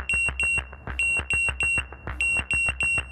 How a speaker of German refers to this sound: Die Züge reden quasi ständig miteinander und wenn zwei Züge auf einer eingleisigen Strecke aufeinander zufahren, dann schlägt das System Alarm.